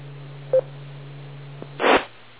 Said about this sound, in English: Oh, my cell phone just went off. Hold on a sec.